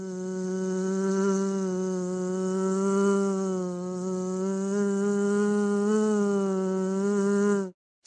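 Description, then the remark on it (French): A steady drone of bees buzzing continuously for about eight seconds, with a slight wavering in pitch, then stopping abruptly. No voices. “Alors, on butine ?”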